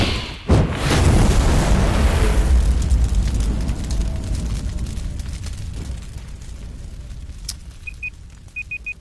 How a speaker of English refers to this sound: I'm gonna do an explosion soundboard there. We gotta do an explosion. Yeah, I like that. Yeah. We'll do some explosions.